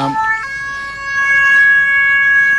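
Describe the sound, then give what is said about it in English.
Two cats' meows run through auto-tune, turning into steady, robotic, synth-like pitched tones: a short note that jumps up to a long sustained one, fairly loud and continuous with no talking. “It's a couple of cats. It's animals with auto-tune.”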